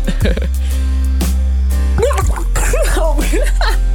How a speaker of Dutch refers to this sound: Het ziet er ook helemaal niet aantrekkelijk uit om nu mijn kop in te steken. Maar goed. Nou, komt-ie. Dus welke actrice uit de serie roep ik nu onder water?